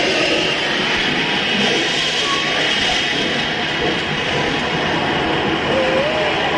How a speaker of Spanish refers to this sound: Escuchen, es maravilloso esto. Se puede escuchar el viento, la caída de los hielos.